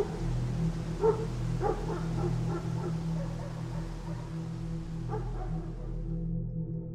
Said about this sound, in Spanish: Aquel silencio acogedor fue sustituido por el incómodo ladrido de lo que parecía una jauría de perros en la distancia, los cuales, poco a poco, fueron escuchándose más cerca, como si en cualquier momento fueran a llegar donde me encontraba.